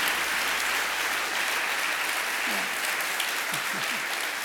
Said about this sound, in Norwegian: Hun, så kan vi ikke gi ekstra god applaus